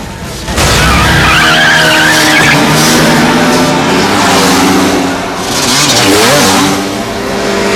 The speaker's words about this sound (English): The two girls eye each other aggressively and rev their bikes before screeching away with their front wheels off the ground.